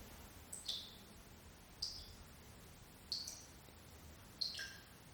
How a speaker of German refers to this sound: Der Tropfen ist im Augenblick auf der rechten Seite. Und das Tropfen wandert langsam hinter euren Rücken.